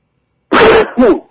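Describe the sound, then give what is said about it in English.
A single loud sneeze bursts out in two quick parts, a sharp explosive blast followed by a shorter voiced tail, with silence before it and no talking. “And excuse me, I'm going to sneeze, folks.”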